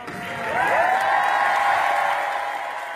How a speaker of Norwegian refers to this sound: Og da Parisavtalen ble vedtatt, brøt det ut spontan jubel i salen, og noen gråt av glede.